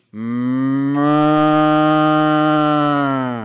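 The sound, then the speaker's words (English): A single long, loud cow moo held steadily for about three seconds, rich and droning, with no talking. “But her jewelry is little white and black and yellow and reddish cows wandering along her banks like a necklace going.”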